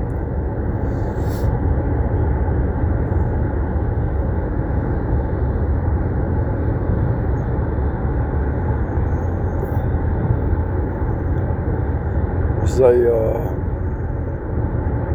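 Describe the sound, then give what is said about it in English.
A small excursion train rumbles steadily along its rails, a continuous mechanical drone, with a short metallic squeal breaking through near the end. “You might have rode a little train when you were a kid.”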